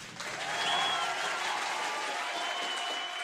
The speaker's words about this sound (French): Un applaudissement bien orchestré salue l'entrée sur scène de …